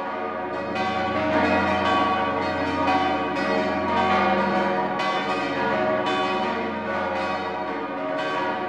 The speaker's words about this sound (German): Das Kloster Maria Einsiedeln im Kanton Schwyz, dessen Glocken nun die Weihnacht 2012 einläuten, ist dafür ein Beispiel. Die Wallfahrtskirche besuchen heute noch fast 1 Million Pilger jährlich.